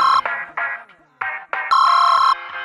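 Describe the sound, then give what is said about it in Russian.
A phone ringtone plays loud: a bright electronic melody of several short, chiming bursts with brief gaps, ending on a longer held tone. “Не размышляя долго, я хватаю телефон.”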